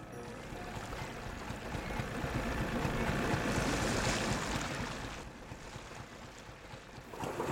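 A steady wash of Yangon River water around a boat in Myanmar, as a search team waits while a diver is below the surface, with a broad rushing ambience that swells in the middle and eases off, no voices present.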